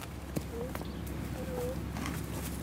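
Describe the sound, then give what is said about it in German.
Hooves of a female donkey clip-clop at a slow, uneven walking pace as a young man walks it into the center of Vielbach, a small Westerwald village in Germany: a handful of soft knocks over steady outdoor background noise, with faint bird chirps. “Ein junger Mann mit einem Esel.”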